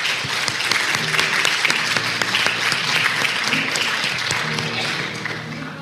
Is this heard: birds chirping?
no